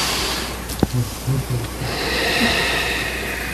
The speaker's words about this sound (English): Take a breath.